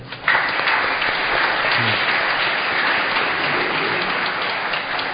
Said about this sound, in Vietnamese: Cộng đoàn giáo xứ chúc mừng cha Phêrô bằng một tràng vỗ tay.